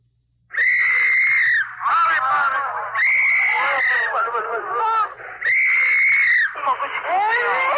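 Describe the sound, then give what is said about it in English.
Loud wailing cries of infants in Korea during the fall of Seoul, as refugees cross a bridge going south, several voices overlapping in long rising bursts that repeat every second or two with barely a pause, a continuous distressed sobbing. “Your ear is tuned to Korea and the fall of a city, to the dissonant sounds of an MP's whistle and sobbing infants.”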